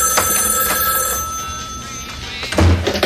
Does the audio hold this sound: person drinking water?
no